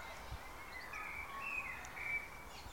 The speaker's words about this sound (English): It's springtime in our garden for once. The blackbird is singing.